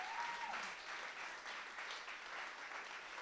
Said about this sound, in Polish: Czy możecie pomachać, że jesteście pierwszy raz? Teraz możecie klaskać. Cieszymy się, że jesteście z nami.